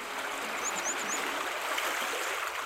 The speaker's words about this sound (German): Wir überqueren die Straße vor der Zausermühle und schau an, da plätschert das Rinnsal aus einem Meter Höhe in einen breiten Stadtbach.